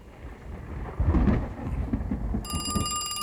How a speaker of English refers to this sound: Winter thunderstorm in New York City. Very rare.